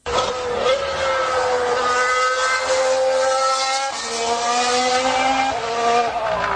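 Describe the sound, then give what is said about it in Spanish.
Lewis Hamilton's Mercedes Formula 1 car engine screams at high revs, its loud harmonic whine rising steadily, dipping briefly as it shifts gear, then climbing again, with no voices over it. “vamos a escuchar a la tronando joya de la corona al Mercedes de Hamilton.”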